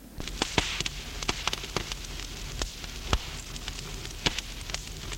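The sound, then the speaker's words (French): A fire crackles steadily in a fireplace, with irregular sharp pops and snaps over a low, soft rumble. It is moderately quiet, with no voices. “Extend ses jambes vers le feu de la cheminée qui crépite.”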